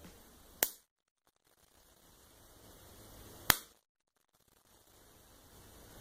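Two sharp, smacking punches made by a Foley artist hitting slabs of raw meat to create fist-fight punch sounds, landing about three seconds apart, each a single loud crack that cuts off quickly into near silence with a faint hiss. Nobody speaks.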